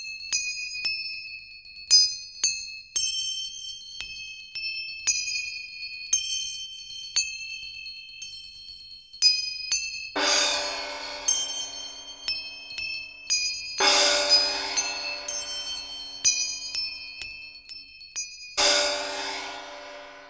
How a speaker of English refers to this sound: Examples of Ghanavadya or solid instruments are manjira or cymbals, gongs and bells.